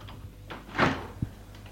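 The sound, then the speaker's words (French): A woman opens a door: a short rattle and creak of the latch, followed by a soft low thud, with a few faint clicks amid otherwise quiet surroundings. “Et elle l'embrasse, puis ouvre la porte.”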